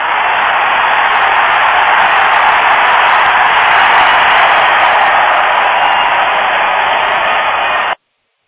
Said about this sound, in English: And the crowd goes wild.